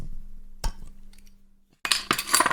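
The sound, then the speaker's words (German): Glasses clink together in a toast between a father and daughter: a sharp ringing clink, a pause with a faint hum, then a louder cluster of bright glassy clinks and rattles. “Prost, Papa. Prost, Tochter.”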